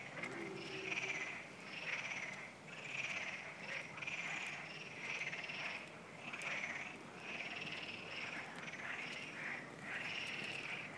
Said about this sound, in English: This is Turkey, the sound of the frogs at night. Can you hear this?